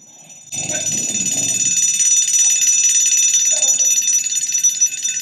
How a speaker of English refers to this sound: Kids in school may hear that one a lot. The fire alarm, correct.